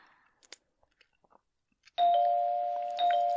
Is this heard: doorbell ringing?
yes